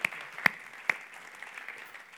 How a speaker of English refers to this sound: Can we give them a massive round of applause? Thank you, Year 12 Drama Team.